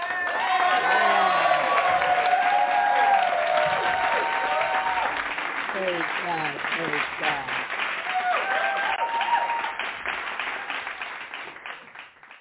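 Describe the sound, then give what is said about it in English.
An audience at an evening Christian church service claps steadily for several seconds to welcome a pastor coming up to preach, a dense patter of many hands, while voices call out and cheer over it before the applause thins toward the end. “So we are going to welcome her with a hand clap praise.”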